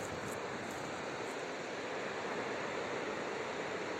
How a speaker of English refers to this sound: It's quite windy today. The river's moving so quickly.